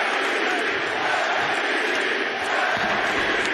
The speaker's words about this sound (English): hear the crowd chanting MVP as you took the line